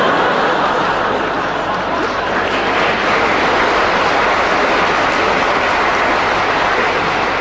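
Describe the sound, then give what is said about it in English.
A train rumbles on railway tracks by the railway cuttings in Clapham, a loud, steady roar with a rattling clatter that holds constant for several seconds without fading. “I live by the railway cuttings in Clapham.”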